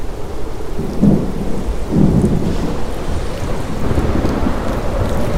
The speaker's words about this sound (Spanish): El viento sopla con violencia, las olas os golpean sin piedad.